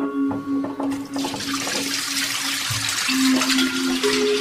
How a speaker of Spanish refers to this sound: Abre la canilla.